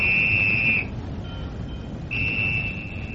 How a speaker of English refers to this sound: The whistle? Yes, the signal, Lowry.